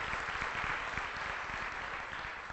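A steady wash of audience applause fills the room, many hands clapping densely and continuously at moderate loudness, with no voices standing out.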